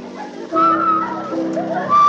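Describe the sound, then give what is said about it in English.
One person whistles a wavering, high melody of sustained notes while another crunches celery, a rough, grainy crunching texture, running steadily for about two seconds. “One's crunching, the other's whistling, and the other's laughing.”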